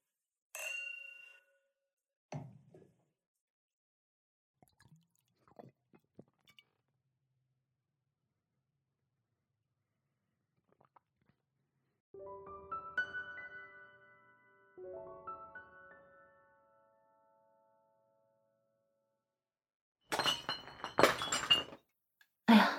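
drinking glasses clinking

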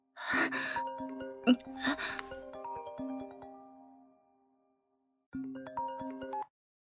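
mobile phone ringing

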